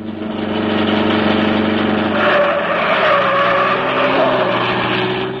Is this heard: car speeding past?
yes